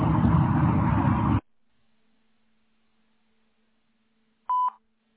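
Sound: voicemail recording beep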